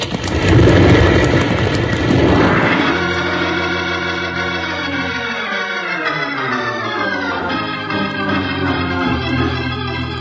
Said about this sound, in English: that big rock. As they blasted it loose, it's falling down on us.